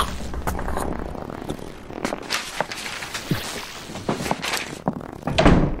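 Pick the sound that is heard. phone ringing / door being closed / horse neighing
door being closed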